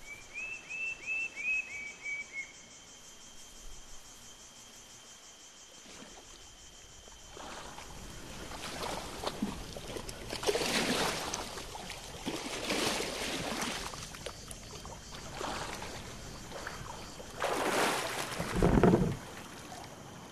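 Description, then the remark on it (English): A boat moves through calm lagoon water, with rhythmic swishing and sloshing strokes building up, after a short run of bird chirps at the start. “You turn and make your way back to your boat, moored in the middle of the lagoon.”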